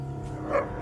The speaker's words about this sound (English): And he also had this whole pack of dogs with him.